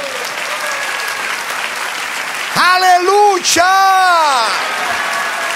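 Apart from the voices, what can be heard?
audience applause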